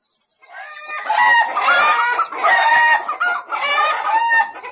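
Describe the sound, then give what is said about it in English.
Several chickens on a farm cluck and squawk continuously, their busy, overlapping calls rising and falling in loud bursts with no talking. “And these are chickens.”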